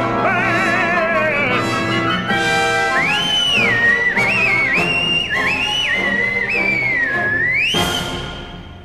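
A shrill whistle sounds repeatedly in long, bending blasts over dense orchestral music, rising and falling in pitch and staying loud throughout before fading at the end.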